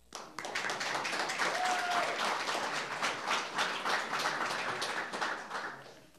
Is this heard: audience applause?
yes